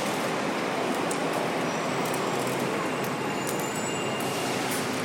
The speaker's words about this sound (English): If it sounds echoey here, it's because I'm well, this is the bus stop. Well, it's like a bus terminal, actually. You've got like about 6 or 7 bus stops, all in a very close proximity to each other.